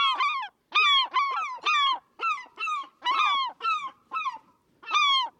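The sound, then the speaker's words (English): A glaucous gull gives a rapid series of about ten loud, nasal, honking calls in quick succession, clear with nothing else in the background. “The Glaucus gull and Glaucus tanager are named for the subtle light bluish tint of their feathers.”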